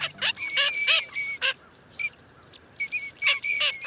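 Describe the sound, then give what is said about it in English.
Small ducks call in a shallow wetland of North America in spring, a flurry of short, nasal, squeaky quacks in quick bursts, some overlapping, with a pause before another cluster of calls starts up. “In spring, millions of small ducks move into shallow wetlands of North America.”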